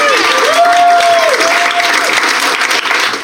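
An audience breaks into steady, loud applause for a panelist who has just been given a point, many hands clapping in a dense wash of sound for a few seconds, with a brief high whoop rising over the clapping near the start.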